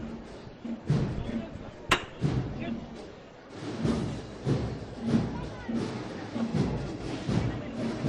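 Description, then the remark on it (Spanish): A sharp, loud hammer knock rings out once, signalling the first lift of the Virgen de las Angustias procession float, over a steady murmur of crowd voices, with softer dull thuds and shuffling scattered before and after. “Vamos a escuchar la primera levantada. A golpe de martillo, esta Virgen de las Angustias.”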